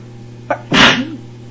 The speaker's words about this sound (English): Ew, I just sneezed on that woman. The right mess it was, too.